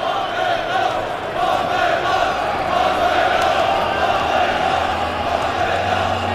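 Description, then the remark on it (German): A large football crowd whistles in protest, amid calls for coach Bommel to go, a steady, dense wash of shrill whistling and roaring voices that holds loud and unbroken throughout, with no single speaker standing out. “Wir hören erstmal die Pfiffe uns an und das mündet natürlich dann auch immer darin, dass es heißt, Bommel raus.”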